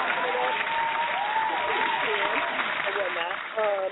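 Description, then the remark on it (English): A steady, dense round of applause from a crowd welcoming a music producer guest on a radio show, with whoops and cheering voices rising over the clapping throughout, growing louder near the end. “Giving him a round of applause.”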